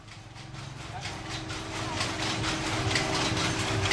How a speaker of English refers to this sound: two establishments that are weaving silk on looms. Our traveling bicycle correspondent, Willie Weir, and his wife, Kat Mariner, captured that sound, saying that the rhythmic clacking made him feel like he was inside the workings of an enormous clock.